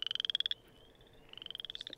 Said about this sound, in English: Oh, here's the chorus frog. That's the chorus frog.